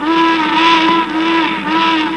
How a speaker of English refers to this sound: There's a U.S. Steel boat, a barge, I believe, that is blowing its whistle, as you can really hear.